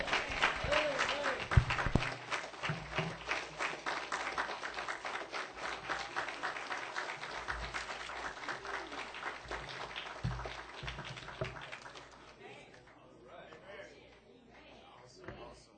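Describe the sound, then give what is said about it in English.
A chapel audience breaks into sustained applause after the sermon at a morning service, dense hand clapping filling the room loudly for about twelve seconds before thinning and fading out, with faint voices underneath. “I got another hand clap.”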